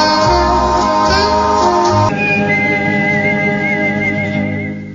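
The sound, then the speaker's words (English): A high, thin human whistle wavers through a melody over a loud, full band recording, entering a couple of seconds in and carrying on steadily while the music slowly fades. “Can you whistle that high? Or is it just him?”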